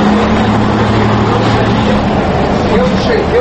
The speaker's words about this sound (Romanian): La gara auto din centrul capitalei, la ora amiezii, mai multe microbuze și doar câteva autobuze își așteptau călătorii. Autocarul de pe ruta Chișinău-Puhoi-Varatic, în care am urcat și eu, urma să pornească în câteva minute.